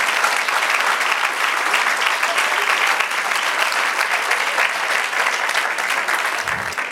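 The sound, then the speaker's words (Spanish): A church audience applauds the Lord steadily for several seconds, a dense, even wash of many hands clapping at once with no break or swell, no voices rising above it. “Vamos a romper el hielo y denle un aplauso al Señor.”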